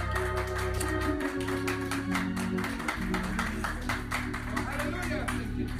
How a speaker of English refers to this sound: Somebody say amen. Come on, clap your hands and give the Lord a hand clap.